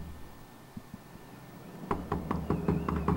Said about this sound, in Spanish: Y alguien empieza a golpear su puerta.